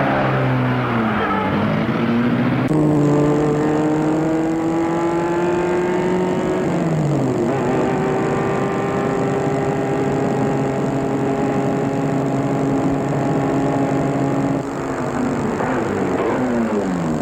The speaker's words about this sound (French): Ils sont sortis de l'immeuble. La voiture est devant l'entrée. Ils ouvrent les portes, mettent le balade derrière et ils partent.